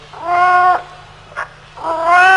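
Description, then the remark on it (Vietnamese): A cat meows plaintively twice, two long, drawn-out wails with a brief squeak between them, fairly loud, with no one talking. “Con mèo này chắc đói bụng hay sao mà nó kêu nghe thảm quá ha.”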